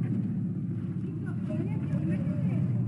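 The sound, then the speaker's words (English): A truck drives along with a steady, low engine rumble that stays loud throughout, while faint muffled voices come and go in the background. “Hey! Stop the truck! Watch out for the kid.”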